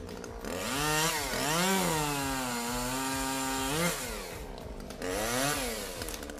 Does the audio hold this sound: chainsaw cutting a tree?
yes